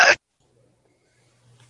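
A single quick, sharp sneeze bursts out at the very start, then everything drops to near silence with only a faint low hum afterward.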